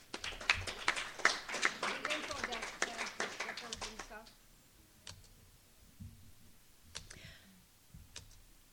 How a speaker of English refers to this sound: So applaud yourselves for those contributions.